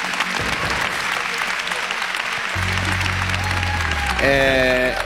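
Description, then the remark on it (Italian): An audience applauds steadily and loudly throughout for two artists, a dense wash of clapping; midway a low droning hum enters, and near the end a few sustained musical tones rise over the applause. “Innanzitutto un grosso applauso, perché sono due artisti meritevoli e sono veramente bravi.”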